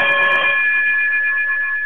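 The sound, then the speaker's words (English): A single chime, played to close out a show, rings out with bright, bell-like overtones that sustain and slowly fade over about two seconds. There is no talking. “if you would be so kind to chime us out.”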